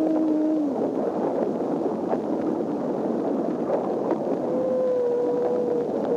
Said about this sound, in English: A humpback whale singing in 1949, 20 years before the discovery of whale song. It was captured by scientists conducting acoustic experiments. They had no idea what those recordings were of.